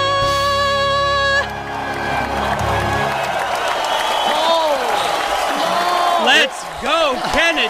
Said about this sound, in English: They're screaming for an encore.